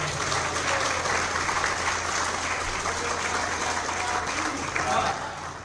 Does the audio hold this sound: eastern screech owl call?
no